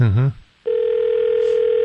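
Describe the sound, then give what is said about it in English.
A short burst of a voice, a brief pause, then a steady electronic telephone ringing tone after a number is dialed, droning on evenly at moderate loudness until the end. “Looks, it sounds like it's ringing to me.”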